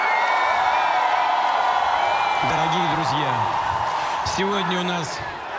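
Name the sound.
concert crowd cheering wildly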